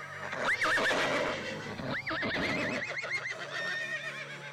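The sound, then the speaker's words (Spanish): A horse whinnies loudly several times in a row, with a dense background of hooves clopping and general stable bustle, in the stables and coach houses of Queen Mother Isabel de Farnesio, no talking. “encargó este edificio tan grande, que ocupa una manzana entera, para albergar las caballerizas y cocheras de la reina madre Isabel de Farnesio, donde estaban los coches de caballos y los caballos, y también las habitaciones para su servidumbre.”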